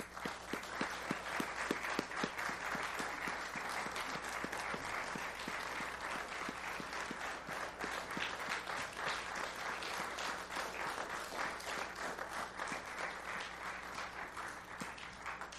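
Steady audience applause for mothers at a morning service fills the whole stretch, a dense patter of many hands clapping at an even, sustained level without fading, with no voices standing out.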